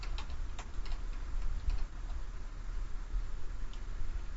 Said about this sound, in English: Hoping to get a response here from the chat room, if you hear me typing away here.